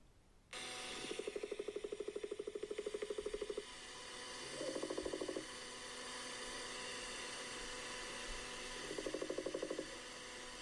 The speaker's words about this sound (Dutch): Dat geklop een beetje, dat is ja, het. Ja, dat is een specht. Het lijkt een specht, maar het is dus een klimopkevercicade. En kunnen mensen dit normaal horen? Als ja, dit kun je horen.